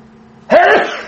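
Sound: sneeze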